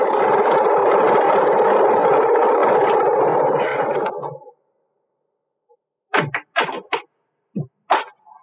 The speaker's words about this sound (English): I am listening to the most beautiful sound in the world. I got to the airport just as the plane taxied up the strip. Single engine job. Just right.